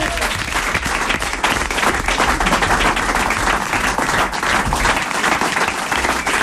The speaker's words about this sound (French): Et on t'applaudit encore